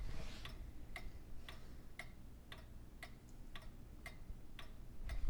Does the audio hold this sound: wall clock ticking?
yes